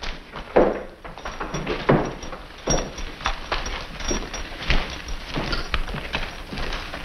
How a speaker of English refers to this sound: The door bursts open.